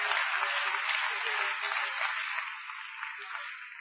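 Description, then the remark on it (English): An audience claps their hands for the Lord in steady, dense applause that fills the room, holding strong throughout and easing off slightly toward the end, with no voices standing out. “Let's clap our hands for the Lord tonight.”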